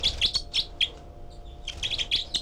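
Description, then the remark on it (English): A young bird, number 318 of a group of four nestlings in cell four, giving begging calls, recorded with a parabolic microphone: rapid, short, high-pitched chirps repeated in two quick bursts separated by a brief pause, moderately loud with no talking. “318 giving begging calls.”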